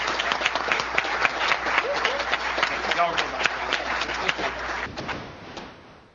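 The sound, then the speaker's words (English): A crowd applauds steadily for a group of people being thanked at an event, dense clapping filling the room for several seconds before thinning out and fading toward the end. “Let's give all of them a big round of applause.”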